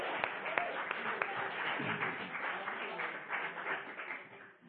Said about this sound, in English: Let's give him a good round of applause.